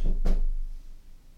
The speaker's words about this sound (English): Someone's just knocked on the door. Don't really know why. Kind of in this office. It's my first day and nobody's knocked on the door. So that's quite worrying. But did you hear the knock on the door?